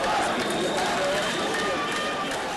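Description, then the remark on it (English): A dense, agitated crowd shouts and clamors in a street in Cairo, Egypt, gathered after a large truck bomb blast outside a security headquarters; many overlapping voices form a loud, continuous roar with no pauses. “There was a large blast and then an angry crowd gathered in the street.”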